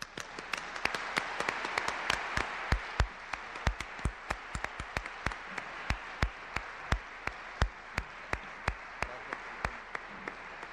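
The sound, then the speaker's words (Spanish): Audience applause welcoming Juan Villoro, a dense wash of many hands clapping with sharper individual claps popping out steadily for about ten seconds, moderately loud and without any voices. “Damos la más cordial bienvenida a Juan Villoro y con un fuerte aplauso.”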